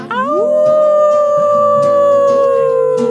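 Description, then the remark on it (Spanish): A single long wolf howl rises in pitch at the start and holds a steady, mournful tone for several seconds, loud, with no other sounds around it. “Aullido de lobo.”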